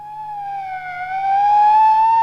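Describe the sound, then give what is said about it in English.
A police siren wails on its own, a steady high-pitched tone that dips slightly and then climbs again, growing a little louder toward the end. “It's the police. Stand back, please. The police are coming.”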